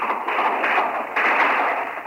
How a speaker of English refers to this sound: The whole thing at the moment lit by only the moon. Again, more gunfire.